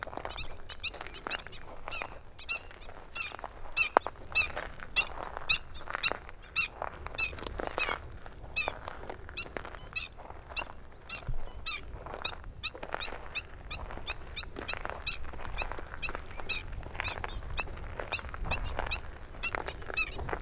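A dense chorus of small birds chirping and squeaking continuously, with quick overlapping calls over a soft, steady outdoor background, beside a vast, calm stretch of water in a light breeze on a mild day.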